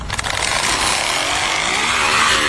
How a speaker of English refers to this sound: You know where the back of your tire is on your bicycle? Yeah. He stuck a water bottle down between the tire and the freaking axle right there. And it makes that sound.